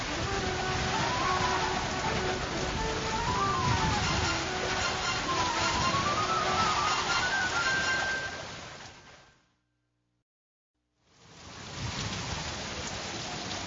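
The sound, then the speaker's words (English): Heavy rain pours steadily with a rushing, blustery wind, a loud dense hiss that cuts out to silence for a moment before the downpour returns. “The rain falls, and the winds blow wildly.”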